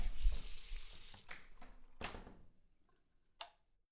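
Tap water gushes loudly into a sink for about a second, then tapers off, followed by a couple of sharp clinks of dishes being handled. No one speaks.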